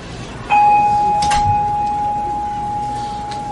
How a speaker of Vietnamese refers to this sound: Cho nên mình thỉnh tiếng chuông, mình thích chuông nè. Và tùy theo cái thế đứng, tùy theo cái dáng chuông mà phát tiếng.